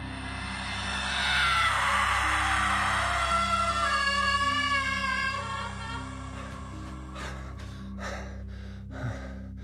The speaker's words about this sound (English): I lay flat out, but then there was a noise that woke me in a second. High it was. A scream, I thought. The kind that I have heard when women, inconsolable and full of tears, do try to breathe, but not for years.